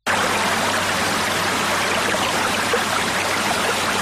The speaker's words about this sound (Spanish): Qué maravilla este sonido, el del agua que fluye en un maravilloso manantial.